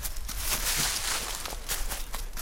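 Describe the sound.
Rapid, light pattering taps imitating a pipit's quick running steps, continuous for a couple of seconds with no speech over them.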